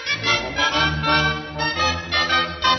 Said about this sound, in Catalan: Tiple i tenora ressonen amb força.